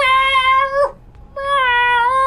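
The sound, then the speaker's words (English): A person imitates a lost kitten's meowing call with two long, drawn-out, wavering yowls separated by a brief pause, loud with no other talking. “do that weird cat calling in the middle of the night”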